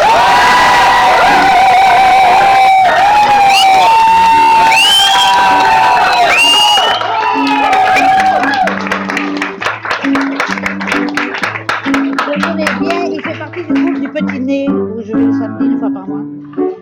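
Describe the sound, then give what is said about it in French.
A large audience cheers, whoops and applauds loudly for someone performing a goguette (satirical song) for the first time. The clapping thins out and carries on as a piano-like melody starts underneath. “Mesdames, messieurs, lorsque quelqu'un fait une goguette pour la première fois, on l'applaudit deux fois plus fort.”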